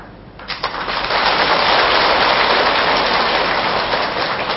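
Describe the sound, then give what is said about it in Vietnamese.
An audience bursts into sustained applause after a letter of thanks from a man wrongly imprisoned for more than 17 years is read out, a dense steady wash of clapping hands that rises within the first second and stays loud and even to the end, with no voices heard. “Chưa kịp kêu gọi với bà con vỗ tay, quý vị đã vỗ tay nè.”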